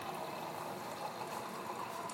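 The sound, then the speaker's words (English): A steady stream of water runs from a dispenser into a container, a continuous, even gushing hiss that holds level throughout at moderate volume, with no talking. “Get some water here in the water dispenser.”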